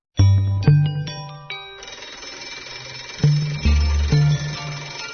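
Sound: telephone ringing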